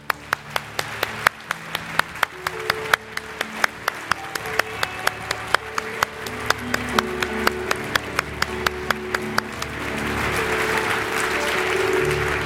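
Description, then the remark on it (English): An audience claps to the Lord together in a steady, even rhythm with no voices, then the beat dissolves into a loose, continuous wash of applause that grows slightly louder toward the end. “We're just going to clap to the Lord with no verbalization.”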